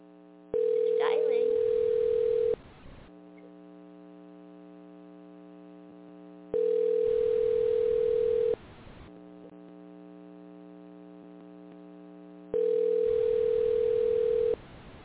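A telephone ringback tone sounds three times, each steady, mid-pitched burst lasting about two seconds and separated by roughly four seconds of low hum and faint line noise.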